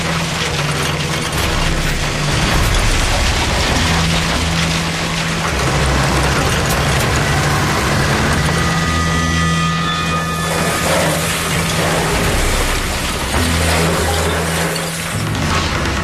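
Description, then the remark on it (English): A 60-ton cat train of heavy tracked tractors pulling sleighs rumbles steadily and loudly across the ice of a mile-wide frozen lake, a deep low engine drone with clanking, grinding mechanical rattles layered over it throughout, and no voices. “He has to trust his instincts to lead the 60-ton cat train across the unmonitored ice.”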